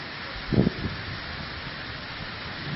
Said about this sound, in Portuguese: Ó, meus queridos, ó, quando chove, a feira inteira está tomada de água. Está toda molhada, por quê?